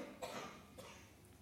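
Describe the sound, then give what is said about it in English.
Two short, breathy coughs a little over half a second apart, the first stronger than the second, with no talking. “How does the mind deal with coughing?”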